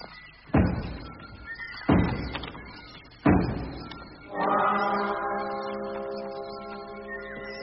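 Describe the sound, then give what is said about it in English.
Three heavy, evenly spaced knocks thud on a door, standing for a knock at Elrond's house, the Last Homely House, in a story reading, each booming and fading, followed by a steady, ringing tonal hum that lingers to the end. “knock on the doors.”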